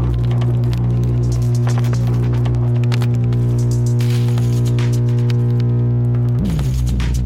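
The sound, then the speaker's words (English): A loud, steady electrical hum drones throughout, overlaid with crackling bursts of radio static; near the end the hum's pitch wavers and bends briefly before settling. “static? What have I done wrong?”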